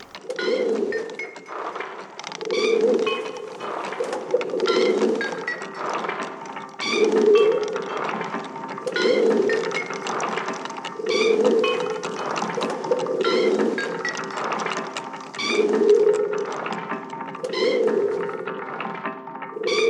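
Pigeons coo in repeated low, throaty phrases, roughly every two seconds in a steady rhythm, clear, with faint higher chirps and clicks scattered in the background, as part of a sound piece.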